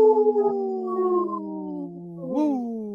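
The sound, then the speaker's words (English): A person imitates a wolf howl on Native Roots Radio, in a segment supported by Howling for Wolves: a long, sustained wavering tone that slowly falls in pitch, then swoops up sharply near the end before tailing off, loud. “This portion of the show is supported by Howling for Wolves, protecting wolves for future generations. Howl! Howl! Woo!”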